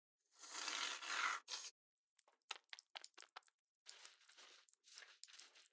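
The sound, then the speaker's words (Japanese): A steady pressurized hiss for over a second, then after a brief pause a run of irregular crackling, popping fizz with no voices, like carbonated shampoo foaming during a hair wash. “よし、それじゃお待ちかねの炭酸シャンプー。シュワシュワーって音すごいからびっくりしないようにね。”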